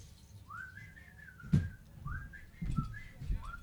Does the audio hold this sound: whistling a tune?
yes